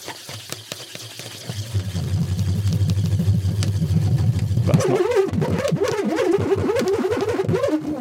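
A nut swirled inside a balloon first slides with a low, steady hum, then abruptly starts rolling into a loud, warbling, engine-like buzz that wavers up and down in pitch.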